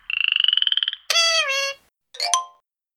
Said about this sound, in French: La grenouille.